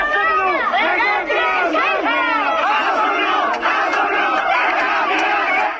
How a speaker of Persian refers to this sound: مراسم خاکسپاری پیمان گلوانی زندانی سیاسی کرد روز دوشنبه 19 تیرماه با حضور جمعیت چشمگیری در شهر مهاباد برگزار شد، جمعیتی که شعار می‌دادند که کاک پیمان قهرمان است، شهید کردستان است.